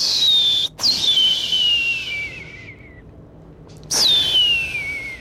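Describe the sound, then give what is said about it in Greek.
Someone whistles to imitate a firework: a long, high whistle sliding steadily downward, a brief pause, then a second falling whistle. No bang follows, and no one talks. “Να ρίξουμε κάνα πυροτέχνημα.”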